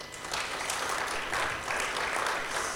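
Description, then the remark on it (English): An audience breaks into steady applause, a dense wash of many hands clapping at once that holds at an even level throughout, with no voices rising above it. “Let's give these guys a clap.”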